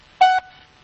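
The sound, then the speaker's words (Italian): A single short electronic beep of a Vodafone voicemail service, a steady mid-pitched tone lasting about a fifth of a second, fairly loud, followed by quiet line hiss. “Vodafone, servizio di segreteria telefoniche. Risponde alla segreteria telefonica.”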